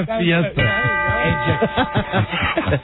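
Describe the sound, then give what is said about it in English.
A single bright ding rings out and lingers with a steady, sustained tone while voices talk over it, the chime fading gradually beneath the chatter. “You know, I can't give that a full chime. I can only give that.”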